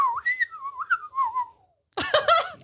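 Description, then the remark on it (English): A man under the District 12 banner whistles a wavering, gliding tune through the gap in his only two teeth, the pitch drifting downward over about two seconds before fading out. After a short silence, a brief burst of voice follows. “Someone under the District 12 banner whistles through the gap in his only two teeth.”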